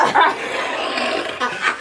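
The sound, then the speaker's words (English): A voice mimics a dog barking, giving a few short, high yips: one near the start, then two more in quick succession at the end, over a breathy, hissy background. “So she leaned up, she went to say something to me, and as soon as she opened her mouth, the dog went.”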